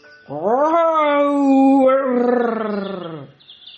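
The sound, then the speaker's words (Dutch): The lion Aslan roars once at daybreak in Narnia, a loud, drawn-out cry lasting about three seconds. It swells in pitch, holds steady, then sinks and fades, with no one speaking. “Aslan, die nu groter leek dan ooit, tilde zijn kop op, schudde met zijn manen en brulde.”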